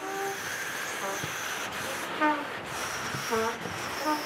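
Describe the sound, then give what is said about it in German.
A brass band plays a chorale with air only, blowing through their instruments without sounding notes, making a steady, breathy rushing hiss with faint, wavering pitched whistles drifting in and out, and no one speaking. “Und dann machen wir den gleichen Choral nur mit Luft, also ohne Klang. Es nimmt einfach das Instrument und es bläst die Luft durch, gell?”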